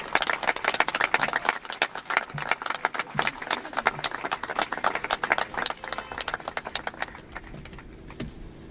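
A crowd at the presentation of a CUP electoral candidate list claps in a dense, steady burst of applause that holds strong for several seconds, then thins and fades out toward the end. No one speaks over it.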